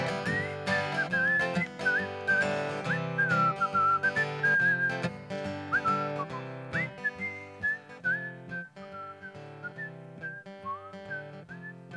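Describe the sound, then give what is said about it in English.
A person whistles a lilting melody while walking away, over a steady instrumental backing, the whistled notes gliding and wavering before growing fainter and more distant toward the end. “Well, I kept on walking and I whistled while I walked.”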